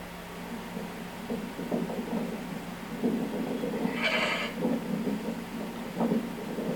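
Several sheep bleat over and over in a noisy outdoor scene as they come running toward a shepherd who called them, with one louder, higher, wavering cry standing out midway through the chorus of calls.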